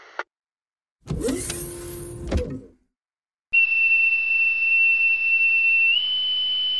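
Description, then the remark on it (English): A spacecraft airlock hatch mechanism grinds and whirs open for about a second and a half, then a steady, high-pitched electronic tone takes over and holds, stepping slightly higher near the end. “Stand by for hatch opening.”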